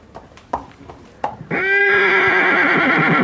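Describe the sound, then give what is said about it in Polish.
A few soft hoof knocks, then a Hucul horse lets out a loud, drawn-out neigh that fills the rest of the moment with a strained, wavering tone. “Czy hucuły białeckie szerżą nam te małopolskie?”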